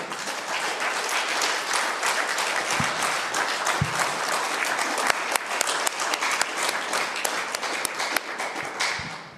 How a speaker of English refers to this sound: You're blessed to have these pastors. Give them a hand clap.